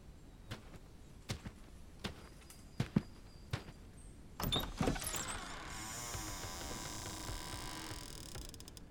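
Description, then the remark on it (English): Several evenly spaced footsteps approach, then a tavern door is pushed open with a brief creaking burst, revealing a steady wash of crowd noise and murmuring from happy patrons inside that continues to the end. “You push open the door and step inside.”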